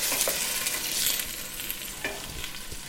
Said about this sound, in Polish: Uwaga, bo to będzie skwierczało, to mokre. Tego soku, który z niego się wydostaje, nie wylewamy, bo jest nam potrzebny, prawda?